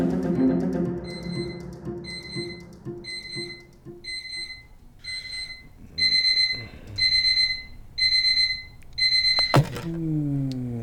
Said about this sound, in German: Es ist 7.59 Uhr. Gleich sollte der Wecker klingeln.